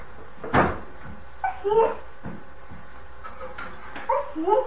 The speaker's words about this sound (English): Your fingers are gonna get pinched in there. Close the door. Close the door, that's right. Good.